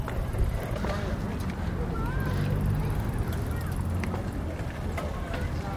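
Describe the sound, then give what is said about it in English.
Busy outdoor street ambience without cars on a warm, beautiful day: a steady wash of crowd chatter and footsteps, faint whistles and chirps, and occasional clicking sounds like hooves or wheels passing. “Just want to give you a sense of what it sounds like out here without the cars.”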